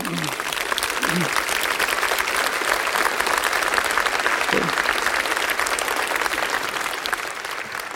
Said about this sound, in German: liebe Kinder ganz besonders und alle, die mit uns verbunden sind über Fernsehen, über Radio. Die grüßen wir mal, danke, mit einem anständigen oststeirischen Applaus, der Gruß hinaus nach ganz Österreich und darüber hinaus.